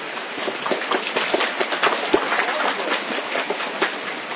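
Steady, dense rainfall with a constant hiss and a crackle of countless drops, loud, holding even throughout with no voices.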